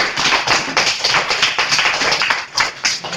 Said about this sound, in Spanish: Un aplauso le damos, que ahora sí.